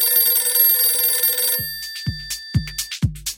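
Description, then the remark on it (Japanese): A telephone rings with an incoming call, a bright, buzzing electronic tone for about a second and a half, then cuts off, followed by four dull thumps like the handset being handled. “そんな話をしていると電話がかかってきました。”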